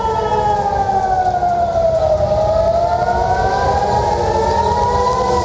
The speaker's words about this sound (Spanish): Esto provoca que las sirenas antiaéreas no paren de sonar en las principales ciudades de Israel como Jerusalén o Tel Aviv.